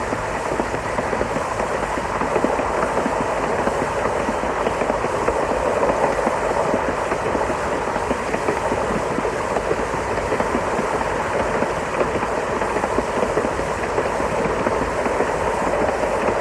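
A train that has just set off rolls steadily along the rails, a continuous loud rumble with dense rattling and faint clicking from the wheels, holding an even level throughout with no voices.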